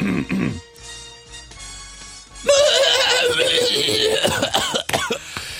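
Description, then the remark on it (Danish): Someone imitates a horse whinnying with a loud, quavering, wobbling voice that runs for a few seconds, preceded by brief vocal noises and a quieter tonal stretch, on the show Mænd med slips on Radio 100. “Nej, for jeg var hesten sidst. I dag er det dig.”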